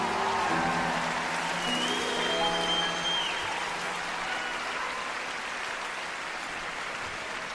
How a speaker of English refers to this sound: That's good click, ladies and gentlemen. Give yourself a round of applause there, I think.